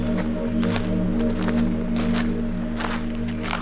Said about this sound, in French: Une forêt. Un petit ruisseau.